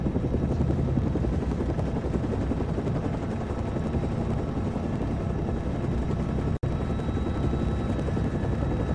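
A helicopter's rotor throbs steadily and loudly throughout, a dense chopping roar that never lets up, with only a split-second dropout near the end and no voices.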